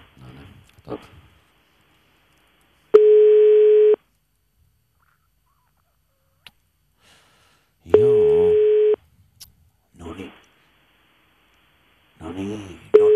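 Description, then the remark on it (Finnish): A telephone ringback tone of an outgoing call sounds twice, each a steady one-second beep with a long pause between. Voices speak briefly around and between the rings. “Me soitetaan niin kauan, että joku vastaa.”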